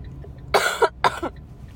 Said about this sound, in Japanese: ちょっと病み上がりで咳がねちょっと出てきちゃってるんだけど、なんか本当にアップデートされた一日になったね。